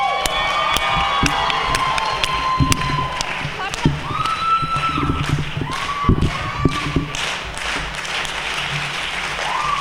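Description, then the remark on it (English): An audience at a live-streamed show claps and cheers for the closing act, a dense wash of applause with sharp individual claps and thumps, rising whoops and shouts cutting through the crowd noise. “Let's go, clap it up.”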